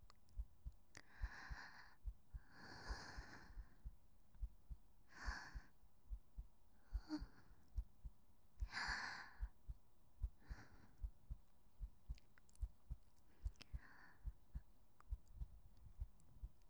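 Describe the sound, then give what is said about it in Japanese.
A steady heartbeat, pounding with excitement, thumps low and quick, about one and a half beats per second, while soft, airy breaths come and go over it. No one speaks. “私は心臓が喉から出てきそうなくらいドキドキです。”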